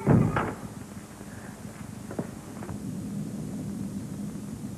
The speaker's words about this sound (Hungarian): Repülőgép. Ha nem itthon volnék, megmernék esküdni rá, hogy orosz rata. Orosz gép? Aza, megismerem a hangját.